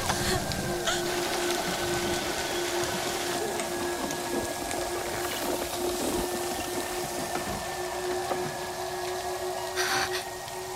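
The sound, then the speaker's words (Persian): Steady rain falls continuously, a dense hiss of drops with a faint mechanical hum underneath, holding an even loudness throughout with no voices. “بارون قطع شد، زمان رو ریست کردن.”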